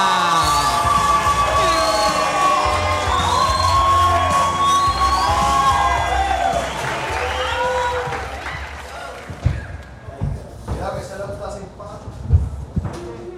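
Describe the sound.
A crowd cheers and claps loudly, with shouts and whistles rising over the din for several seconds before it fades into scattered voices and a few thumps.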